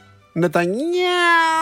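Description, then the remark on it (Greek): A human voice does a single drawn-out cat meow, starting with a short bleat, then gliding up in pitch and holding a long, loud, nasal tone until the end. “Γατάκι λοιπόν ο Νετανιάου.”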